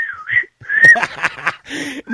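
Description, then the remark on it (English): A pet bird named Nathan warbles in a quick run of varied whistles, sliding high notes broken by sharp chirps and a short raspy burst, fairly loud, with no talking. “I was going to say, was that you or the bird that was warbling there, was it?”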